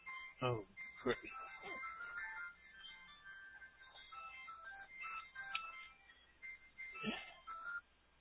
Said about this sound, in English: That was the governor, and I rejected his phone call.